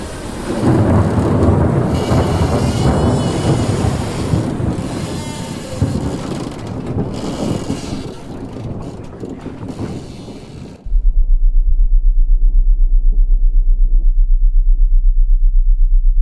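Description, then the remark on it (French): Loud, rough crashes of storm waves breaking against the hull of a pirate ship in bad weather with a heavy swell for about eleven seconds, a continuous roaring surge, then cutting abruptly to a steady low droning hum. “Il y a les vagues qui viennent s'écraser sur la coque, il y a de la houle, mauvais temps.”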